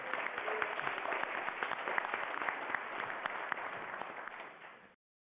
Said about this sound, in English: got a special cheer there.